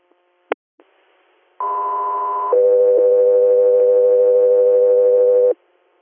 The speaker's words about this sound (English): Guthrie Air, stand by for tones.